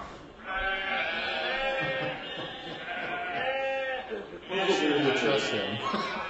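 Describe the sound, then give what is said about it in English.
A sheep bleats loudly, two long wavering calls, the first lasting several seconds and the second following after a brief pause, as people try to catch it on a hill. “We try and catch one now and see what we can do with it.”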